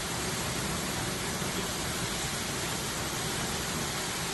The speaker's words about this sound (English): And right here, they are flushing the water from the sinkhole into this hole right here. So from last night, there was a water pipe that burst from this area.